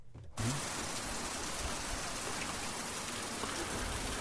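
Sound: heavy rain pouring down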